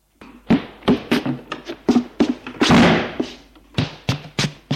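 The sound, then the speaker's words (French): A bedroom door slamming shut as someone leaves the room, amid a rapid, irregular run of sharp bangs and thuds, one heavier crash with a lingering rattle in the middle, over a faint low hum. No voices. “Et il sort de la chambre en claquant la porte.”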